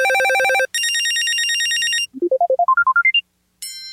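Four electronic business-phone system ringtones from an RCP Tones sampler play in turn: a pulsing harmonic trill, a steady buzzy tone, a quick rising run of bright beeps, then a shimmering chime. No voices.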